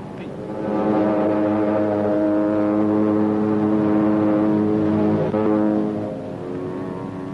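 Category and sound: vehicle, propeller aircraft taking off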